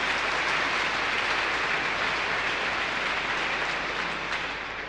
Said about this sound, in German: Ganz herzlichen Dank. Ein Beifall für alle Geber hier.